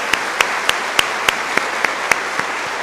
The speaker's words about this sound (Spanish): Mandémosle un aplauso bien fuerte, yo creo que él está viendo.